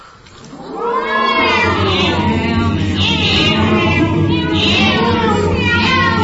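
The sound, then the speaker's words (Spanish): A cat lets out a long, drawn-out meow that swells into a loud, wavering yowl lasting several seconds, with a low steady hum underneath. “Es una pena que no podamos escuchar todo el miau, claro, porque tiene una evolución muy muy interesante desde el principio al final, pero bueno, nos contentaremos con un fragmento de este miau.”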